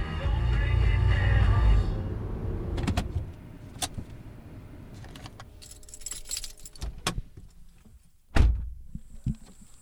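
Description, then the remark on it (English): A car being driven across town: its engine rumbles briefly, then settles into quieter cabin sounds: keys jingle, a power window whirs, and sharp clicks and a solid door thunk ring out near the end. “So I hopped in my car and drove across town, balancing this tub of ratatouille in the cup holder.”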